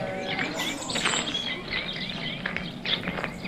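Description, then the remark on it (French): Continuous birdsong of many overlapping chirps and short whistles at moderate volume, set against a steady soft background wash, as in the opening of a recorded track. “Même à la technique, y'a personne qui a reconnu le... de oiseaux.”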